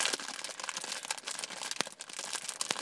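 Steady crunching and crackling of someone munching on crunchy dry rabbit food, with dense brittle snaps running continuously and a few sharper bites standing out.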